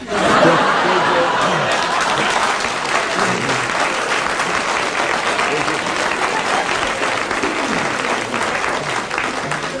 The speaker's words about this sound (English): Oh, that applause is music in the ears.